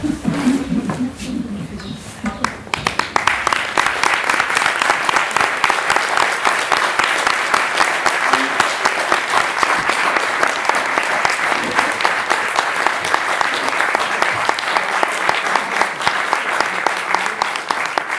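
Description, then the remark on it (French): Sustained applause from a sizable audience, dense clapping that swells in after a brief murmur of voices and continues steadily and loudly to the end. “Applaudissements étaient plus pour moi que pour eux.”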